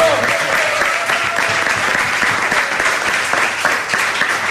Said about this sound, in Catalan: que demana un aplaudiment ja per ell.